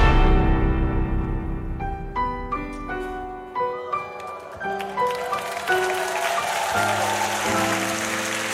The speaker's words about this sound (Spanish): El público aplaude, el telón se levanta para que comience a prepararse en el escenario del trasnoche de la radio.